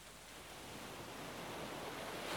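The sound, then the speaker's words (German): A steady wash of ocean surf, broad and hissing, swelling gradually louder toward the end as a wave surges in. No voices, just the continuous roar of water. “Du wirst jetzt vom Rauschen der Wellen, von allem, was dich tief in deinem Inneren belastet hat, befreit.”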